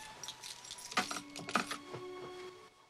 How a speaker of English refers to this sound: He empties his pockets, adding his gold lighter and keys to the belongings in the drawer.